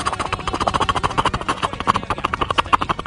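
The rotors of a TV news helicopter make a steady, rapid thumping chop during a live report. The sound is loud and pulses evenly throughout, with a broad roaring wash behind it and no voices.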